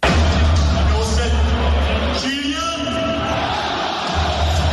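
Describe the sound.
A packed crowd at the Parc des Princes applauds and cheers in a continuous, loud roar as Kylian Mbappé's name is announced in the lineups before the match against Benfica. A booming amplified voice briefly rings out over the noise partway through.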